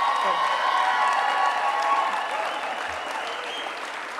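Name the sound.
audience round of applause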